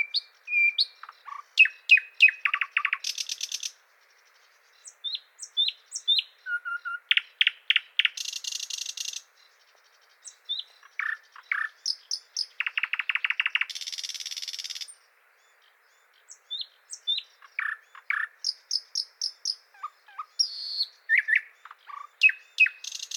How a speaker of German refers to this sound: Es gibt noch einen Vogel, der ziemlich ähnlich aussieht und auch einen sehr markanten Gesang hat, der sich dennoch unterscheidet von der Nachtigall. Es ist der Sprosser.